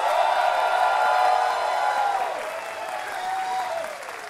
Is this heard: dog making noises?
no